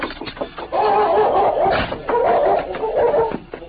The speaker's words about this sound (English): Outside the house, the powerful dog pulled against the chain that held him.